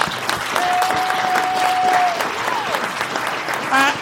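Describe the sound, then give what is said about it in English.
A round of applause for a 12-time motorsport world champion, dense steady clapping filling the whole clip at an even loudness, with a long thin whistle-like tone sliding through the middle and a brief pitched chirp near the end. “Is that a round of applause?”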